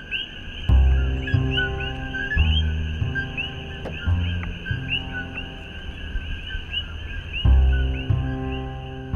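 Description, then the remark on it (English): A loud, dense chorus of invasive frogs calling at night outside a hotel room in Hilo on Hawaii's Big Island, high piercing chirps repeating nonstop and overlapping, with a few deeper rumbling bursts rising and fading underneath. “I recorded this outside my hotel room last week on a reporting trip for season 2. The frogs are shockingly loud”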